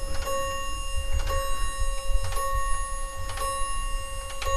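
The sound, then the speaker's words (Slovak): Clocks chime the hour with a steady series of bright, ringing strikes about once a second, each tone sustaining and overlapping the next over a low background rumble. “No, teraz nám hodinky odbijajú.”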